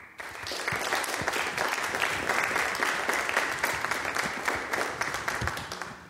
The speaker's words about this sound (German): Allen hier auf der Bühne und dem Moderator Bastian Rutte doch mal einen Beifall.